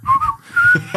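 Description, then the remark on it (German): A forester whistles a short tune, a few clear, wavering tones rising and falling over a second, fairly loud with no talking. “Weil der pfeift selbst ja. Wenn der sich anstreicht, pfeift der.”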